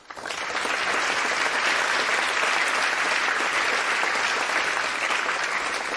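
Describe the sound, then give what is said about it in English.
A crowd at an evening event in Montana claps steadily as a show of respect for about six seconds, a dense, even patter of many hands that swells quickly at the start and holds at a strong, constant level with no voices over it. “If we could also show our respect and give them a round of applause.”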